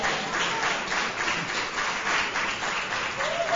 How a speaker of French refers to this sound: merci d'applaudir très très très fort, mesdames et messieurs, merci.